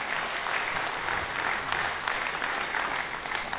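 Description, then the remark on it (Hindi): A crowd claps steadily to welcome a speaker, a dense, even patter of many hands that holds at a fairly constant loudness throughout, with no voices standing out. “तालियां तो बजाई, लेकिन मुस्कुराहट किसी के चेहरे पर आई, किसी के पे नहीं आई।”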